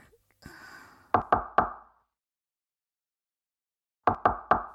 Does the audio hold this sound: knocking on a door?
yes